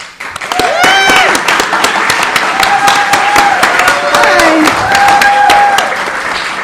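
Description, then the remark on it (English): A group of friends clapping hard, steadily and loudly at an event in Washington Hall, with a few voices whooping and calling out over the applause. “Those are my friends clapping really hard.”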